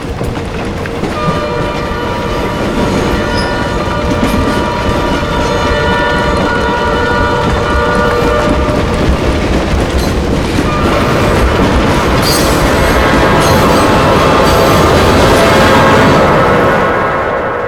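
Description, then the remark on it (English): A train with its headlight on races along the railway tracks, its steady rumble and rattling wheels filling the air, with sustained horn tones sounding and the noise swelling louder as it draws near. “getting an upside-down view of a train light racing towards him like a one-eyed monster.”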